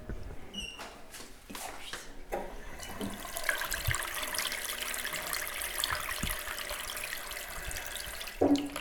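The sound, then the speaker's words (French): Water pours steadily from a tap, a continuous hiss with slight splashing and a few soft clunks near the start and end. “Robinet.”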